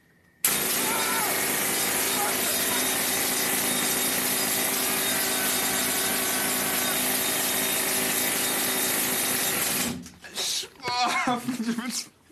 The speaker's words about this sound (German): So haben die da reingebohrt in das Gestein, oder was? 8 Stunden am Tag. Ach komm. Jede Schicht, ja klar.